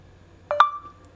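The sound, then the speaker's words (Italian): A phone's electronic prompt beep signaling to dictate a name to add to the phone's contact list: two quick clipped blips followed by a single sustained mid-pitched tone lasting about a third of a second, clear, with no voices. “Adesso premo ok, attendi il beep.”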